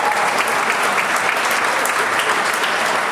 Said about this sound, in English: There's some applause. You like that?